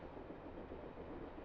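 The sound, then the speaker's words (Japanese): Steady rumble of a moving train heard from inside a carriage that is currently fairly empty, a dense low-mid roar with faint rhythmic rattling and no voices. “今は空いてるけど、電車の中で会えたら目立っちゃうから。”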